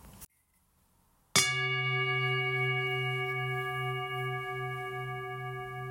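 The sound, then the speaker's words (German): A single singing bowl is struck as a gong between readings of a Bible verse, after a brief silence, ringing out with a clear metallic tone and layered overtones that sustain steadily and slowly fade, heard alone. “Und zwischen den einzelnen Übersetzungen kommt jeweils ein Gong von der Klangschale.”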